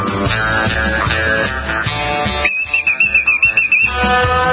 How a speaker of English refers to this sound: Man, they've got real whistles there at the highway patrol.